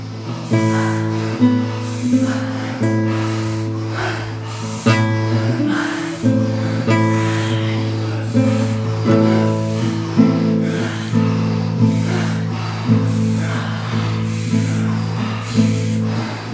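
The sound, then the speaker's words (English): Deep, rhythmic breaths in and out during a guided breathing round, repeating steadily every second or two, airy, over a sustained droning musical tone in the background. “Whatever you might be grateful for in this moment, bring it into your breathing round. And breathe with joy. In and letting go.”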